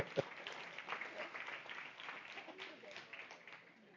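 An audience applauds with a steady, dense patter of many hands for about four seconds, heard from a distance and fairly soft, easing off slightly toward the end.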